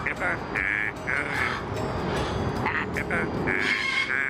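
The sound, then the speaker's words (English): A female parrot at the Knoxville Zoo sings the birthday song to herself for her 38th hatch day in a raspy, squawking voice, holding a string of tonal notes in rhythmic bursts, fairly loud over a low background murmur. “A parrot at the Knoxville Zoo sang happy birthday to you to herself for her 38th hatch day.”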